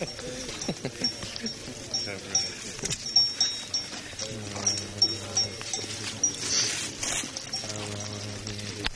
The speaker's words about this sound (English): Very young? Yeah. 1 year. Bull. Cow. It's a cow.